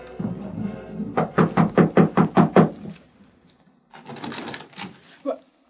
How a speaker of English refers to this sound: They walked up the steps to the porch and knocked on the door.